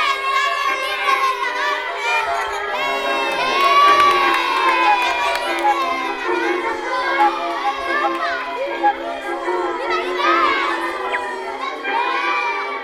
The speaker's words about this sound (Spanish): El preso volvió al pueblo, donde todos sus habitantes le estaban esperando entre vítores y gritos de alegría.